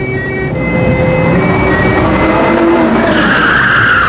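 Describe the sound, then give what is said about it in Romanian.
The tires of a car that police had signalled to pull over squeal loudly through a turn, a sustained high-pitched screech over a roaring engine, rising and shifting in pitch toward the end. No one speaks. “Ai văzut cum a luat virajul?”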